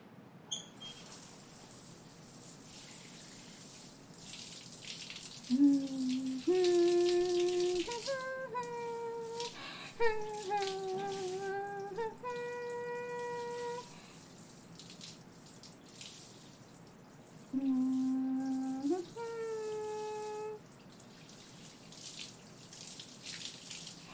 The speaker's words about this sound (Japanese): 洗い終わった。流すから念のため目をつむっててね。君の方にまで水や泡が跳ねちゃうかもしれないし。